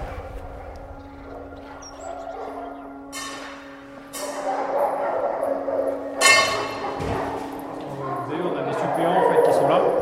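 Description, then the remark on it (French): Dry dog kibble rattles as it is handled in front of working dogs and a food bowl is set down, giving a few sharp clinks and clattering bursts spread over several seconds, with people talking underneath. “Toujours en sécurité, dans le sens où on met le chien d'un côté, on met la gamelle tranquillement, parce que vous voyez, là on manipule les croquettes devant eux et tout.”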